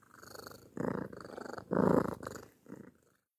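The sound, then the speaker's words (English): A cat named Cilia (short for Sicily) purrs in a steady, rumbling rhythm, the low vibrating cycles rising and falling in loudness for a few seconds before trailing off. “And this is my best friend, Cilia.”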